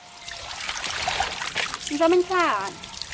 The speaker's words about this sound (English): I came across this family trying to pump clean water and getting clay sludge.